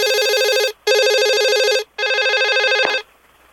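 A telephone rings three times in quick succession on a recorded phone call, each burst a loud electronic warbling trill separated by brief pauses, with no one speaking, ending in faint background hiss.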